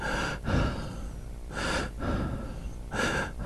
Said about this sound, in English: Oh, my breathing is very heavy.